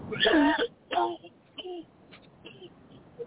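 A person coughs several times. A strong, rough first burst is followed by shorter, fainter coughs trailing off over a few seconds.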